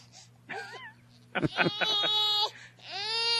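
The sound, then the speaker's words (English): A baby cries in several bursts: a short warbling whimper, then choppy sobbing cries, and finally a long, high, rising wail, loud over a steady low hum. “Get used to the sound.”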